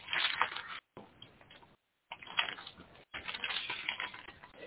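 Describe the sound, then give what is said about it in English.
Papery rustling of book pages being turned to Isaiah chapter 43, in several bursts separated by brief silent gaps, with no voices present. “I have so many pages turned, and I just like to read it.”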